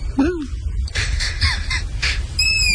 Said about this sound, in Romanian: Bun, lumea zice bufniță. Sau pui de bufniță. Bă, stai puțin, deci puiul de bufniță, sunt mai mulți pui de bufniță